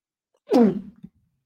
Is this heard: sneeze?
yes